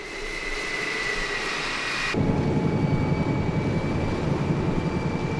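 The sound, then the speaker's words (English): Military helicopter engines roar steadily with a high whine, then surge about two seconds in to a louder, deeper rumble as power increases for a rolling takeoff, continuous with no voices. “Mass Tower 697, we're ready for media rolling takeoff.”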